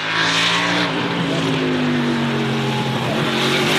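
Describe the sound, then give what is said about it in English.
A NASCAR stock car engine roars loudly and continuously, its deep, throaty drone wavering slightly in pitch as it revs, with no voices. “Here's what a NASCAR sounds like.”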